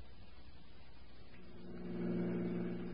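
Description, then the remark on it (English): A car engine hums low, then grows louder and steadier with a throaty droning tone as a car pulls up and stops at the Taylor Avenue car station. No one speaks. “All right, Maury, pull up here. There's the car station.”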